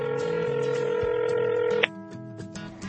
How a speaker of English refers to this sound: She is calling her phone with the help of another phone. She was listening for her phone ringing, and there it is.